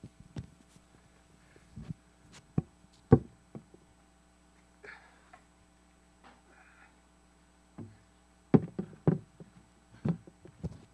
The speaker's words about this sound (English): Okay, for those of you listening, I just put the chair up on top of the podium up here.